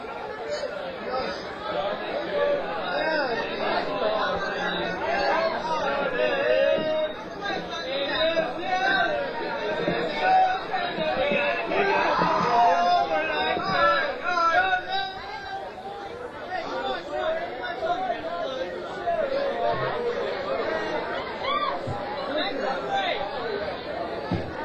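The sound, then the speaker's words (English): Loud, rowdy crowd chatter in a restaurant, many overlapping voices forming a steady babble with occasional louder exclamations rising above the din throughout. “I hope we haven't disturbed your meal, this rowdy crowd here.”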